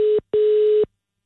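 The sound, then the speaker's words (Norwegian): A steady electronic telephone ringing tone sounds in two bursts during a call transfer, a brief one and then a longer one, fairly loud and clear with no voices. “Nej, nu ringer den.”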